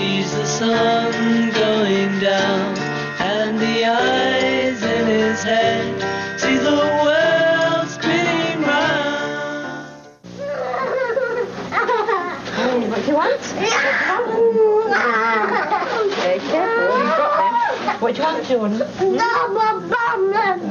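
A child in a tantrum, screaming and crying in loud, sustained wails that bend sharply up and down in pitch, with harsh shrieks and sobbing breaths running almost without pause.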